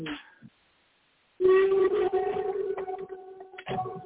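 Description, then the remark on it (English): A gong rubbed with a friction mallet gives a loud, sustained moaning drone of layered tones that waver and glide in pitch, rising abruptly after a brief sound and a moment of silence. “That's the gongs come out of the friction mallet on the gong itself, right here.”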